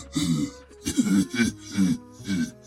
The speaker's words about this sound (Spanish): Sintió molestia en la garganta. Trató de aclararla, pero ocasionó una fuerte tos.